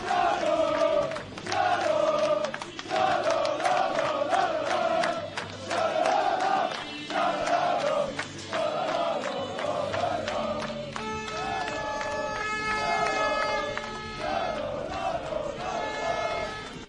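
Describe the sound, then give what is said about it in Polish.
A large crowd of Rawicz speedway fans celebrating their team's success chants loudly in rhythmic bursts, voices rising and falling together in a repeated pattern, with cheering throughout and a steady, sustained tone joining in during the second half. “A tak ten sukces świętowali rawiccy kibice.”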